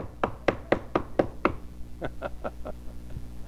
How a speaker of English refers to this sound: And he's knocking on the door.